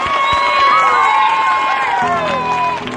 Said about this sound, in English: Let's give one great big hand for the whole show here. We, everybody, one time, everybody.